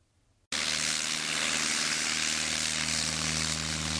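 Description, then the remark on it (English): A loud propeller airplane engine roars steadily after a brief quiet start, its drone holding a constant pitch with a strong low hum and broad rushing noise. The airplane is used to reach many areas of Cameroon. “The airplanes play a major role in allowing us to get out to many areas of the country.”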